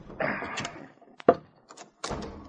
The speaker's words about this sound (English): unbarred the front door.